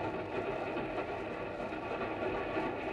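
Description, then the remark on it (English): A steady, continuous rumble of a westbound train rolling along the tracks, low and even throughout, like the sound heard from inside a moving railway carriage. “And that's how, an hour or so later, a girl named Mary Marshall and a soldier named Zachary Morgan looked at each other from opposite seats of a westbound train.”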